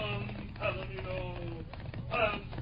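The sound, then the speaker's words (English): A Palomino horse's hooves clatter in a quick galloping rhythm as it gallops away, heard over a muffled, narrow-band background of steady tones, moderately loud throughout. “He's got a Palomino horse.”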